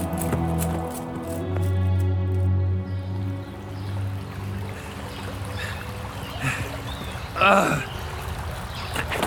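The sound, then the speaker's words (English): Water trickles and burbles steadily like a gentle stream, a soft continuous wash with one brief louder splash near the end, following a few seconds of sustained tonal sound at the start. “Water! It's water! You're hallucinating. It's dehydration. No. Look. A gentle stream.”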